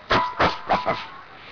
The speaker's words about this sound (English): Otherwise, why are they barking? They want to control you by barking. This is my turf.